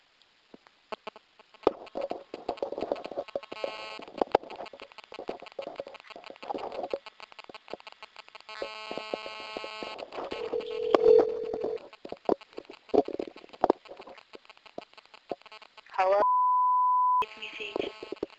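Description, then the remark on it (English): A second attempt at a phone call, placed at 4:26 p.m.: a series of electronic tones and beeps over line hiss, then a steady, clear beep near the end, moderately loud. “Second phone call attempt at 4:26 p.m.”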